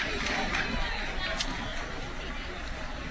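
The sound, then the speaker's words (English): A baseball crowd in Canton cheers after the first pitch, a curveball, lands for a strike. The cheering is a steady, dense roar of many voices, with a couple of brief higher shouts rising out of the din, fairly loud throughout. “Crowd getting fired up already.”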